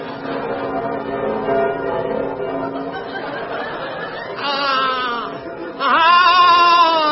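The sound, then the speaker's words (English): Church bells ring out in sustained, overlapping tones on a muffled, old-sounding recording, with bursts of audience laughter and chatter rising over them toward the end. “I must ring the bells. That's all I do from morn to night. Ring the bells.”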